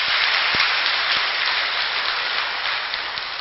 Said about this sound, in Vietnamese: Nếu quý vị thấy rằng là việc đó nó cần phải xảy ra với nông thôn Việt Nam thì hãy cho một tràng pháo tay để nỗ lực đạt được.